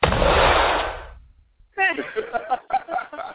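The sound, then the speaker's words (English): A single loud gunshot with a broad booming blast that decays over about a second, followed by a pause and then a person speaking. “Now, the gunshot City. Got their attention. He said, whoa, shots fired.”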